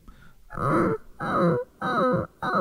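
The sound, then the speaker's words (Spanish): As part of a vocal exercise, a voice imitates a crying puppy, making four whimpering vocal bursts with wavering, sliding pitch. Each burst is about half a second long and separated by short gaps. “que, como lo digo, es como un sonido similar al de un cachorrito llorando.”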